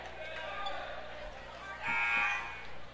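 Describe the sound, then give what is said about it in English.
A loud, steady basketball arena buzzer horn blares for about a second during a game, before an inbound play, amid the murmur of a crowded gym, with some voices in the background. “McKinney will inbound it in a buzzer. Okay. Horns.”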